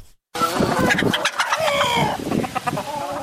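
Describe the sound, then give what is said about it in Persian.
A dense chorus of many chickens clucking and squawking at once, fairly loud, with overlapping calls after a brief silence at the start, at a poultry farm of more than 1000 chickens in a courtyard in Nili, the centre of Daykundi, in central Afghanistan. “داخل حولی کاگلی در گوشه ای از شهر نیلی، مرکز دایکندی در مرکز افغانستان می شویم که در آن زهرا عارفی بیشتر از 1000 مرغ را نگهداری می کند.”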